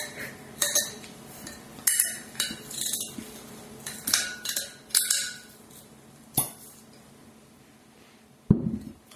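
A wine bottle being opened with a corkscrew: a string of sharp metallic clicks and scrapes at an uneven pace, ending in a dull, low pop as the cork comes free. No one speaks.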